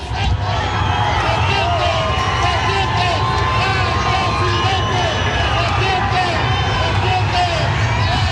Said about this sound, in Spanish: Ahí va saludando a la gente. Escuchamos un poco el ambiente también de la gente gritando.